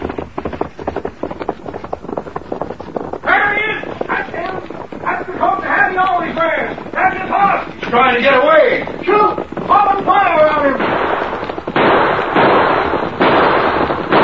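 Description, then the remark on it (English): Lawmen, a marshal, a sheriff and a deputy, fire at a rider fleeing on horseback from the woods. A rapid string of sharp gunshot pops crackles over galloping hoofbeats, then men shout excitedly over the continuing shots and hooves. “Shoot! Pop and fire around him.”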